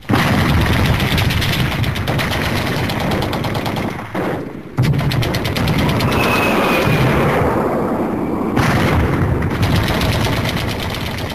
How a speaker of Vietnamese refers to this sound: Ôi, tiếng súng nổ rền vang trên khắp lãnh thổ.